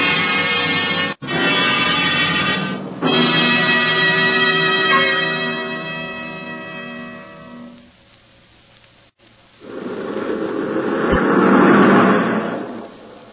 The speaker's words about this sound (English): You mean that new Packard that just passed, Jim? Yes, sir. That's the popular price Packard Clipper, with the power and luxury that only Packard can put into a car.